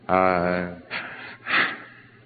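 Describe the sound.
A man imitates the heavy gasping of a person near a grief discharge: one long, voiced, drawn-out gasp followed by two rough, breathy heaves, fairly loud, with no words spoken.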